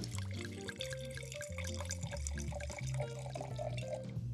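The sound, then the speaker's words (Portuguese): Merlot Terroir wine pours steadily into modern Moza Cristais glasses, a continuous gurgling trickle with faint ringing tones from the glass, quiet and unbroken, with no one speaking. “Aqui temos as taças bonitas, modernas, da Moza Cristais, que também nos presenteou com essas taças.”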